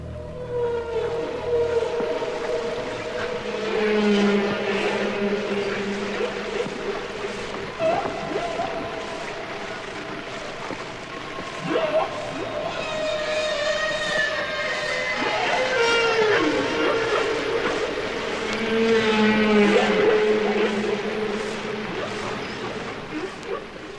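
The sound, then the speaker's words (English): Long, sweeping whale calls rise and fall in slow glides and moans, overlapping one another in a continuous, echoing underwater song with no voices present. “Recent documentaries have featured garbage trucks unloading, computers singing, and even whales.”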